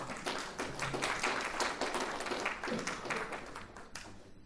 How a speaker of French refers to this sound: Qui, comme toute vedette, sait se faire applaudir.